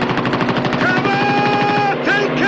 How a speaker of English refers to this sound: 2 flaring missiles rocket from the plane's underbelly. The half tracks explode in a churning mass of fire.